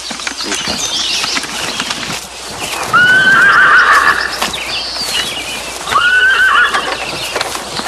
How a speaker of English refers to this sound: A horse-drawn wagon laden with furs follows behind the lead rider, while another native horseman brings up the rear.